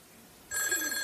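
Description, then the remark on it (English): A princess telephone starts ringing abruptly after a brief quiet moment, its bright, metallic bell jangling loud for the rest of the short clip, with no voices. “That princess phone, that's right.”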